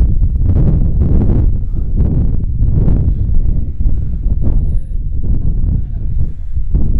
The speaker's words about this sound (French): Je sens du vent sur mon visage.